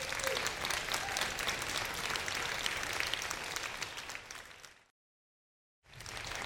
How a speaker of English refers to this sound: And while they're doing that, could we have one more round of applause for …?